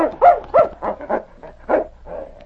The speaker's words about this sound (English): Inside the cabin, Sergeant Preston said, "Sounds like one of your huskies has broken loose."